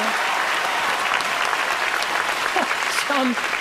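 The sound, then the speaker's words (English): Vigorous applause from a crowd, a dense, steady wash of clapping that stays loud throughout, with a few brief voices calling out near the end. “… vigorously applaud.”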